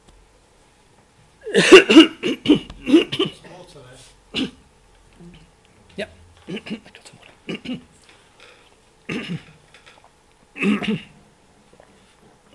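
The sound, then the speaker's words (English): A person coughs and clears their throat repeatedly, with a cluster of harsh coughs followed by scattered single throat-clears, and a brief spoken remark in between. “I need to have a bit of a cough.”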